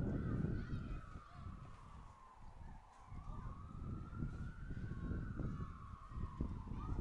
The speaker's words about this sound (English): Sirens blaring from out on Surf Avenue.